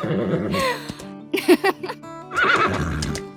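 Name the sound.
horse whinny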